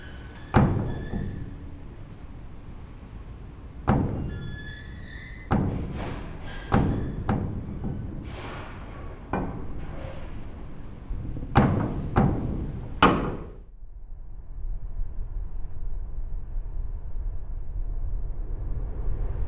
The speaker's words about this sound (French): Qu'enregistre-t-on de la culture humaine ou de la géophonie quand on enregistre le vent qui vient secouer cette porte en métal?